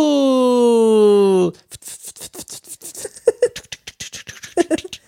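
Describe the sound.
A voice mimics a snore: a loud, drawn-out nasal groan, then a fast series of short raspy snorts that fade in and out.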